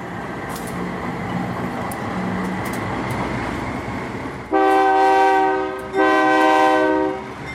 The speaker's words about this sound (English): is sitting quietly near the train tracks about 20 miles north of Mexico City. She's a single mother from El Salvador, traveling to the U.S. border on top of a freight train called La Bestia, the Beast.